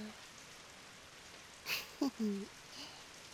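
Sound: steady rain falling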